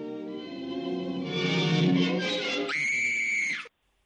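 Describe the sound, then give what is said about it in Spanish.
A woman lets out a long, loud scream lasting several seconds, rising and wavering in pitch before jumping to a shrill peak and cutting off abruptly, with no talking over it. “Con grito, con ese con grito.”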